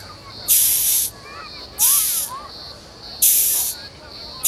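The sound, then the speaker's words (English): A horned insect hisses by rubbing its abdomen and wings together, as it does when disturbed, in three harsh, airy bursts, each lasting about half a second with short pauses between, and a fourth beginning at the end. Faint chirps sound in the gaps. “It makes that sound by rubbing its abdomen and wings together.”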